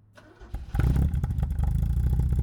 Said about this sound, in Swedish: Han kör en A-traktor, eller mer specifikt en röd Opel Manta från 1977.